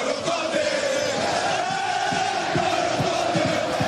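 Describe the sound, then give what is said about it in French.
A huge crowd of over 80,000 French supporters in a packed Stade de France sings together with the French team, Les Bleus, a chant praising N'Golo Kanté. It is a loud, dense wall of massed voices holding a steady chant-like melody for the whole stretch, with no single voice standing out. “et puis ce moment de communion, c'est un stade archi plein, plus de 80 000 supporters qui a repris avec les Bleus l'un des tubes de cette Coupe du Monde.”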